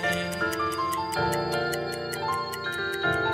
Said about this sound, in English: Time ticking.